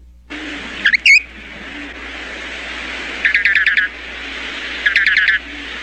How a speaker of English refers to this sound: What kind of a bird do you call that? Hey, that's not a bird. That's a jew's harp. Where did you get that thing?